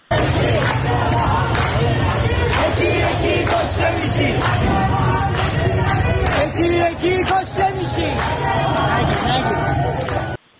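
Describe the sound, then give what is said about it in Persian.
A large crowd of protesters in the Tehran bazaar, Iran, shouts and chants loudly and continuously, many voices overlapping in a dense roar with sharp bursts of yelling, sustained for about ten seconds. “صدای مردم در بازار تهران رو بشنویم.”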